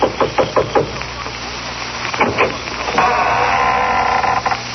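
Five quick knocks rap on a cellar door, then after a pause a heavy door creaks open with a long, steady grinding groan.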